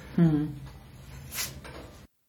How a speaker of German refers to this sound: ist das wichtig, was er sagt, und darum klopft er mit der Hand zu seinen Worten auf den Tisch. Das hört man auch ein bisschen.